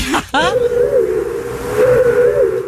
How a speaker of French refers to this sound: C'est la fausse lumière en LED pourrie de la voiture K2000. De Kit.